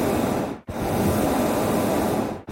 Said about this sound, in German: Das klang schon komisch. Das wäre irgendwie so Schnarchen oder so. Ich wäre auch nicht drauf gekommen. Vogel. Das ist der Gasbrenner in einem Heißluftballon.